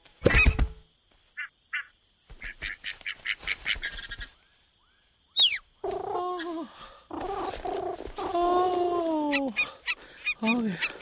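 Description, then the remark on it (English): A golden goose honks several times, loud nasal calls repeating in quick bursts, after a stretch of sharp clattering and tapping sounds with no one speaking. “The golden goose. Just look at her. Isn't she beautiful?”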